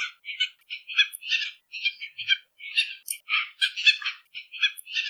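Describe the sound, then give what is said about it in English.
A tropicbird gives a rapid, continuous series of harsh, raspy barking calls, one after another for several seconds, loud with no voices present. “Their calls have been described as a loud, sharp bark, sometimes with a piercing scream that's mostly heard around their breeding grounds.”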